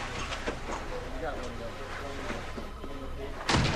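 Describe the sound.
A door at a police station opens and shuts with a single loud thud near the end as someone walks in from outside, heard over a steady, busy indoor background with muffled voices murmuring throughout.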